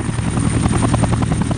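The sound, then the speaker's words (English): A Black Hawk helicopter passes overhead in a virtual reality simulation, its rotor blades chopping in a fast, steady rhythm over a loud, rumbling engine drone, with no voices present. “I raise my head, and I see that chopper flying by.”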